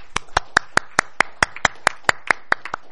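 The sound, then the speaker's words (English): Applause in a quick round of sharp, distinct claps at a brisk, steady pace, clear, lasting a few seconds with no talking over it, given for the work of the chair of a review group. “So I do have to thank you, and I'd like just a quick a round of applause for your work.”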